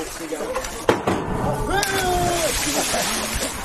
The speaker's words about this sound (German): Salto vom Dreier, mit den Füßen zuerst im Wasser gelandet. Körper und richtig geflogen in der Luft. Vom Dreier.